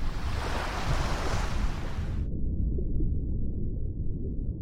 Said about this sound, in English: You can't see anything, and then the water crashes in over you, and you all black out.